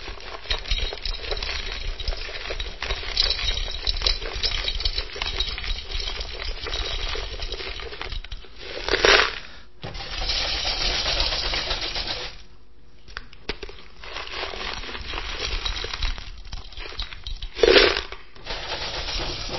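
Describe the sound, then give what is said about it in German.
Pebbles pour steadily from a bucket into a glass jar, a dense continuous rattle and clink with two brief louder clatters along the way. Nobody speaks. “Dann nahm der Professor, ich bin jetzt der Professor, ich nehme keine Schachtel, ich nehme einen Eimer mit Kieselsteinen, schüttete sie in das Glas.”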